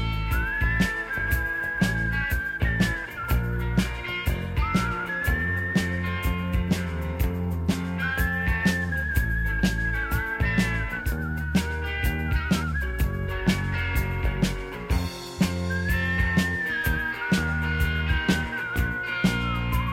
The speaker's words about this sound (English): He remarkably finds a little bit of pitch during the whistling parts of this song